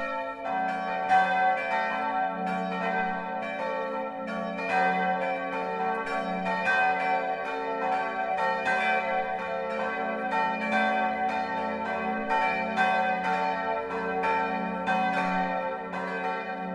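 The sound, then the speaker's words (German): Several church bells of the Evangelical Lutheran St. Martin's Church in Wörnitz, Middle Franconia, Germany, peal together for the 12 o'clock midday ringing in a dense, continuous ringing, strikes overlapping in a steady rolling rhythm with a rich humming resonance, loud throughout, with no voices. “Das Mittagsläuten kommt heute von der evangelisch-lutherischen St. Martinskirche im mittelfränkischen Wörnitz.”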